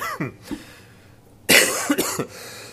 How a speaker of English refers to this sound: Excuse me, try to get that coughing out of the way.